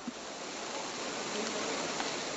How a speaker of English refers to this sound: That is the Trevi Fountain today, and as you can hear, the water is flowing. That's because Rome's landmark fountain has been turned back on.